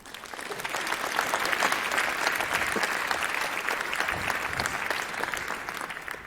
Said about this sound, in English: Give her a warm applause.